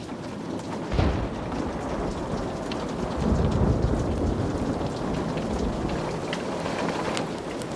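Steady heavy rain pours throughout, pattering against the walls of a castle, while a sharp crack of thunder hits early, followed by a deep, rolling rumble that makes the air vibrate, swelling midway and lingering under the downpour.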